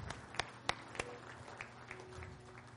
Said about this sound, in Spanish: Dele al Señor un aplauso esta noche. Aleluya.